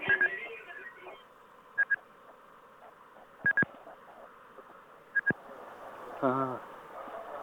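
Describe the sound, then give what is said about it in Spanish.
Electronic keypad tones from a coin payphone that practically no longer works, short beeps pressed in quick pairs at irregular intervals, over a steady background hum, with a brief warbling tone near the end. “No, porque mira, este es un teléfono de monedas que, bueno, prácticamente no funciona.”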